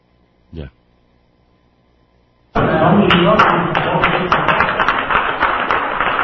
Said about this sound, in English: And that's the applause for acting like a little Hitler.